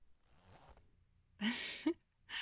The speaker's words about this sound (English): Luckily, this wedding is over and I don't have to wear it anymore. Do you want to finally see what's underneath? Here, can you help me with the zipper?